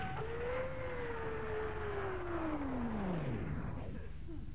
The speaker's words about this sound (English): What's wrong? Why is she shuddering like this? We ought to be able to stop by now. But we stop those blasted engines. Stop engines, quick! Stop engines, sir!